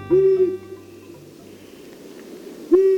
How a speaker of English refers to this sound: The low-pitched hoot of a long-eared owl can carry for half a mile.